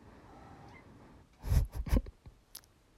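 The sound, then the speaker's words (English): A cat makes noise: a short cluster of scratchy, thumping bursts in the middle, then a faint tap after, over quiet background hiss with no talking. “Yeah, my cat makes an appearance in pretty much everything I do these days.”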